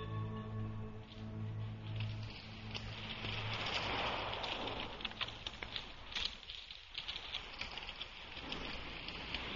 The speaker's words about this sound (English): It's starting to rain.